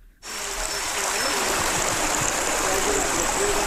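Water gushes steadily from a spring fountain at a small hillfort settlement, a bright continuous rushing and splashing that starts abruptly and stays loud throughout, with faint burbling underneath.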